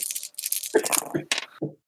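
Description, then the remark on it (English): Four dice are rolled for a check in a game, rattling and clattering for a second or so in a busy burst of small hard knocks, with a brief murmur of voice near the end. “Grab my four dice.”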